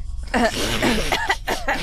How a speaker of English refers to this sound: coughs out loud.